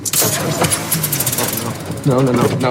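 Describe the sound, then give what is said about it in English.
A new car's engine runs rough, a loud, uneven rattling and sputtering that keeps going for a few seconds, with a deeper, steadier growl near the end and vocal sounds mixed in. “Sorry, just working out the kinks, you know, it's a new car.”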